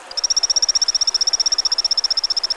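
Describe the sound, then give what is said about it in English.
A male Brazilian torrent frog beside a fast-flowing stream in the Amazon jungle chirps to advertise to females, a fast, steady series of high, pulsed notes, about ten per second, clear over a soft hiss of rushing water. “You happily chirp away, advertising your availability to whatever female torrent frogs are around.”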